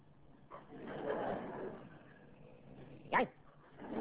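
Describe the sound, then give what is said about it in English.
A person imitates a dog barking while holding a small box, pulled off a dog's collar, against their larynx to try it out: a few short, rough bark sounds, one sharp and loud near the end, with softer whimpering, yip-like noises between them, with no talking. “And so I got the little box, pulled it off his collar, and this is absolutely true, I actually put it against my neck and began to bark.”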